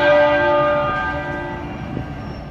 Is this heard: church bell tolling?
yes